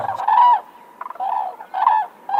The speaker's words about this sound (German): So hören sich übrigens echte Kraniche an. Und auch dieser Klang macht etwas mit uns.